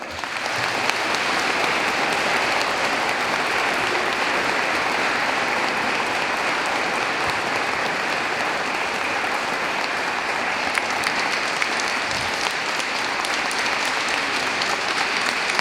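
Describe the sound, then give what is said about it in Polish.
A large audience in Gniewczyna Łańcucka applauds steadily for about fifteen seconds, greeting the listeners of the broadcast after carol singing, a dense, even wash of clapping with no pauses and no voices standing out above it. “Ale myślę, że też dużo ciepła się zrobi w naszych domach, tam gdzie teraz są nasi słuchacze, gdzie słuchają tej transmisji, gdy ich pozdrowimy także gromkimi oklaskami.”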